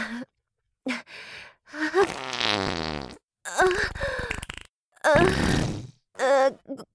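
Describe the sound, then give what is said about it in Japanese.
A string of loud farts in a home's entrance hall, including one long sputtering, buzzy blast, separated by brief pauses and short breathy vocal noises. “屁が止まりません。臭い屁をブリブリこき散らしてしまいます。”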